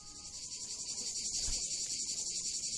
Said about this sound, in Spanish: Más propio lo de las chicharras que lo de los pajaritos, ¿eh?